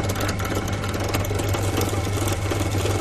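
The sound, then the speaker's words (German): A drill press runs steadily as its bit is lowered to bore through a clamped piece of plastic, a continuous buzzing motor drone with a strong low hum and a gritty, even texture for the whole stretch, with no talking. “Ich schalte jetzt mal die Bohrmaschine ein und senke jetzt den Bohrkopf ab.”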